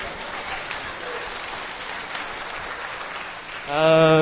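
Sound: applause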